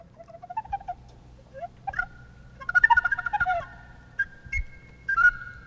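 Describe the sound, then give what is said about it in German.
A flute in a jazz recording, heard in Niklaus Troxler's parlour in Willisau, plays bird-like phrases: sliding high notes, rapid fluttering trills and short sustained tones, clear with no talking, over a faint low background hum. “Und ein bisschen weiter weg vom Brunnen, nur ein paar Meter weiter, in der Stube von Niklaus Troxler, verschwimmt die Grenze zwischen Vogel und Flöte.”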